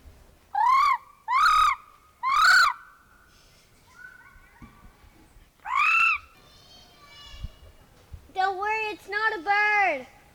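Loud bird calls ring out in short bursts: three quick cries, a pause, another single call, then a rapid flurry near the end, like birds answering one another.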